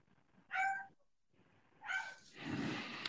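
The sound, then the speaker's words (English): A dog left home alone behind closed doors yelps twice in short, high-pitched bursts about a second apart. The second yelp runs into a rougher, noisier whine, with no talking. “Oh, no, my dog is yelping up.”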